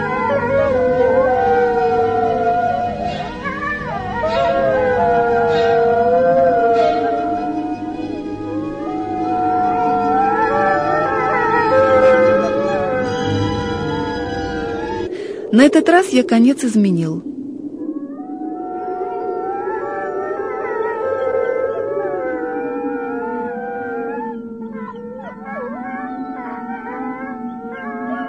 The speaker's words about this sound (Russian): заснули, и вдруг вдали завыли волки. Все ближе.